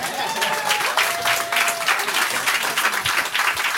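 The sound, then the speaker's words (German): People applaud steadily for several seconds, dense overlapping claps at a constant level, with a faint sustained tone and some murmuring voices underneath. “Ich kann nicht klatschen.”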